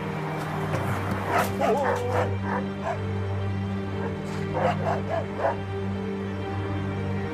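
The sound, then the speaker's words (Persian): A dog barks in two short clusters of yips and woofs over a steady low hum with faint background murmur. “که پارس رو میکنه بابا.”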